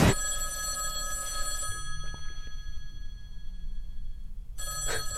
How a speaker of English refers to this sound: First, that phone over there is gonna ring.